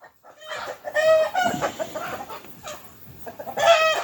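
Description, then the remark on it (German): Several chickens cluck and squawk in a busy, overlapping burst that rises, dips briefly, then swells again at the end. “Vögel, das sind Hühner.”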